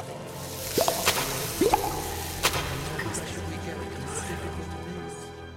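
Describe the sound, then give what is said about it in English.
A few small objects, gifts, plop into a water pool one after another, each with a quick rising gurgle, followed by a sharper splash, over a steady low background hum. “will you place the gifts into the water pool that we might drink their nectar?”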